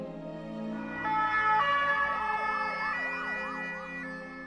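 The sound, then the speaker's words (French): An ambulance siren wails in rising and falling sweeps over a steady tonal drone, fairly loud and continuous, with no voices present; the ambulance evacuates Jonathan Daval after he collapses on the third day of his trial. “mais à la fin de la journée, pris d'un malaise, Daval s'effondre. Il est évacué en ambulance.”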